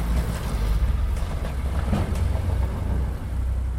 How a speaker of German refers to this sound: Kaum ist der Anhänger voll, fährt ein Traktor mitten in die grosse Arena rein.